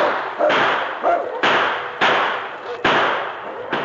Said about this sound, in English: The sergeant reloaded and blasted away again.